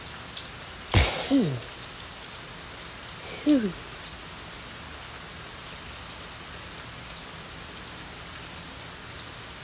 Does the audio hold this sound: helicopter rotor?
no